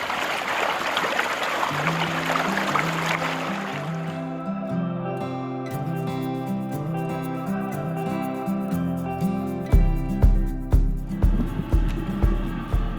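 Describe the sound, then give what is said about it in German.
Steady rushing of water flowing along a Wuhr irrigation channel as people walk beside it fills the first few seconds, then fades as melodic music takes over with a pulsing bass line. “Und jetzt laufen wir an der Wuhr entlang.”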